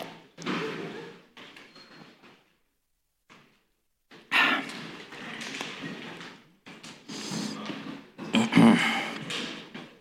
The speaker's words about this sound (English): Now, if you will, please everyone join me for a ceremonial sip of water for your internet god and network supreme ruler.